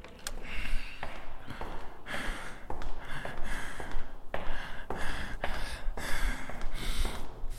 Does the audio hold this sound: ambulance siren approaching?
no